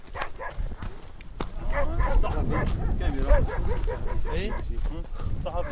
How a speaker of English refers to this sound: A wild pack of dogs seemed to be chasing us at one point.